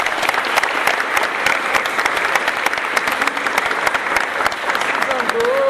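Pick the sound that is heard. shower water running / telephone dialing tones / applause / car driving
applause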